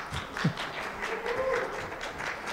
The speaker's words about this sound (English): Hey, if you're watching online live or watching later, we want to welcome you here today. Would you give them a hand clap and a welcome?